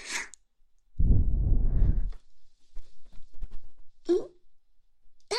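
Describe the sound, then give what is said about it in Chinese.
A person role-playing a dog imitates sniffing at its owner's ears: one loud, breathy sniff, followed by quieter short snuffles and a brief vocal squeak, with no speech. “嗅出来了，狗狗的鼻子可是人类的1000倍呢，1000倍嗅觉呀！”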